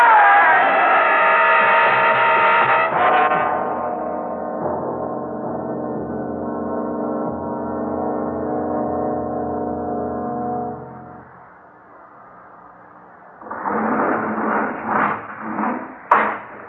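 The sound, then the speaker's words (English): A loud truck horn blares continuously for about ten seconds as the truck comes straight at the listeners, its pitch dropping as it rushes past, then fades out before voices and some clatter follow. “There's something coming at us. Dad, it's a truck. Look out!”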